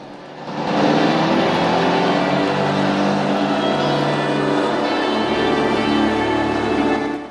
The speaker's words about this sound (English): The boat sets off.